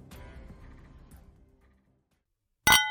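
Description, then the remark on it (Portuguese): Wine glasses clink together in a toast, a few bright strikes with a ringing tone that fades, followed after a short silence by one sharp, loud clink. “Brinde história. Tchim, tchim. Tchim, tchim.”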